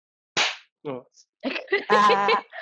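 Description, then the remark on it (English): One sharp, loud hand clap made to sync a recording, with a brief ring, followed by short bursts of voices and what sounds like laughter. “I think you have to clap louder.”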